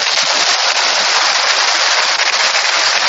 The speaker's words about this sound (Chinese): 鼓掌。